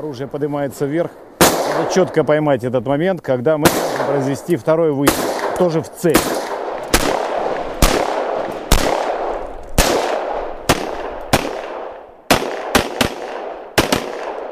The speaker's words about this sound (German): Nach dem ersten Schuss gibt es einen Rückschlag. Die Waffe geht nach oben. Die Männer müssen das Gewehr schnell wieder in Position bringen und kontrolliert feuern. Beide Schüsse müssen das Ziel treffen.